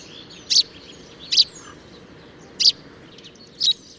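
Four short, bright chirps from a Eurasian tree sparrow, a monotone string of syllables repeated about once a second at the same unchanging pitch, clear over a soft, steady background hiss.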